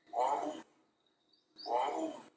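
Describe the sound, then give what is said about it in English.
Two loud, drawn-out tiger roars of a mating call, each lasting about half a second with a brief silence between, rough and throaty with strong resonant bursts, heard alone. “So if you hear this sound when tiger's getting ready to have some sexy time.”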